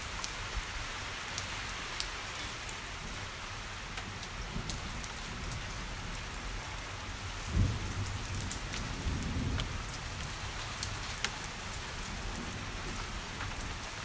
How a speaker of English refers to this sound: I don't know if you can hear the thunder because of the rain. It's pretty constant. Goodness, a wind. Oh, here goes that gutter again.